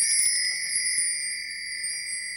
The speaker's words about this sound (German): Und auch heute zum Nikolaustag läutet das Glöckchen unseren literarischen Adventskalender ein.